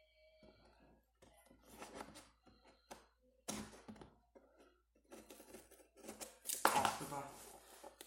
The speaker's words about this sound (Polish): Zdałoby się nożyk, dobra, spróbuję to jakoś. Nie wiem. Nożyczkami otworzyć tą taśmę. Coś tam zdrapałem kawałek.